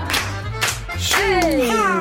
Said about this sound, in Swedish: Oh, så klappar vi det! Ja, det gör vi!